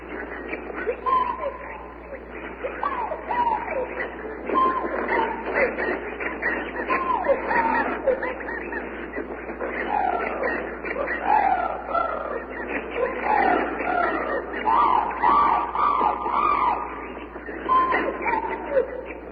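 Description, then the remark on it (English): A dense, continuous chorus of squawking, chattering tropical bird calls, with overlapping whistles and rising and falling cries at a steady, moderately loud level throughout. “Sounds like tropical birds, maybe from the Bronx Zoo.”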